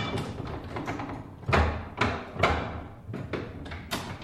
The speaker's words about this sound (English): Here's an old printing press.